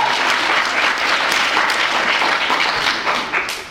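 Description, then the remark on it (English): Sustained applause from a crowd clapping for unions, a dense steady wash of many hands clapping at full volume throughout, tapering only slightly near the end. “Clap it up for unions.”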